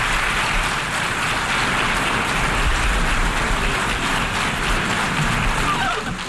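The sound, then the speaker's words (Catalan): Sustained applause, longer than usual, at the United Nations General Assembly for Palestinian president Mahmoud Abbas before his speech, a dense, steady wash of clapping that holds at an even, loud level for the whole stretch without pausing or fading. “Uns aplaudiments més llargs de l'habitual que avui ja ha seguit des de Washington en Francesc Garriga.”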